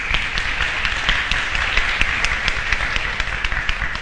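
An audience at a lecture applauds steadily for about four seconds to welcome a professor, a dense patter of many hands clapping at an even, fairly loud level with no voices standing out.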